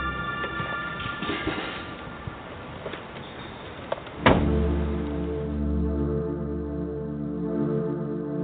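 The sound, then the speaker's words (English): People getting out of a car: a muffled interior rumble with faint clicks, then one sharp door-like thud midway, followed by a steady low engine hum. No one speaks. “Let's get the fuck up out of the car.”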